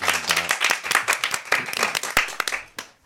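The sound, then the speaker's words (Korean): An audience applauds a singer after a live song performance, steadily for about three seconds, a dense crackle of many hands clapping at once, fading out at the very end. “다시 한번 큰 박수 보내주세요.”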